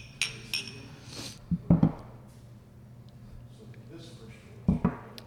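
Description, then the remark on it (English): Glasses clink together in a toast, a few short bright chimes, with some duller knocks and a low murmur of voices in the background. “Thank you. Cheers, guys. Cheers.”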